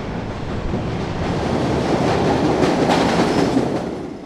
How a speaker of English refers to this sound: Okay, I can feel the wind coming through, so I guess that is. Here comes the train. Here comes. Yeah. Okay, I'm going to step back.